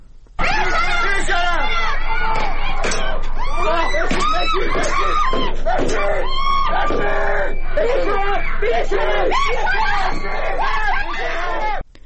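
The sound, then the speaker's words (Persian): Protesting students and young people in Sanandaj, Iran, scream and yell on a Sunday in a loud, chaotic clash with Islamic Republic security agents, many high, strained voices overlapping continuously with shouting and babble and no pause throughout. “در همین حال ویدئوهای منتشر شده در شبکه‌های اجتماعی نشان می‌دهد روز یکشنبه سنندج صحنه رویارویی دانشجویان و جوانان معترض و ماموران جمهوری اسلامی بود.”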